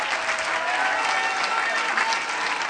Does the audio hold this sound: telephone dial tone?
no